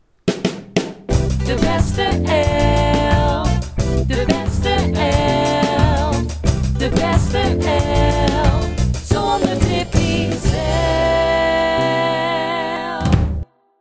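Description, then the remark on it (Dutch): A short, loud jingle tune with punchy drum hits and layered melodic instruments plays steadily for about thirteen seconds, then cuts off abruptly. No one speaks over it. “De tune.”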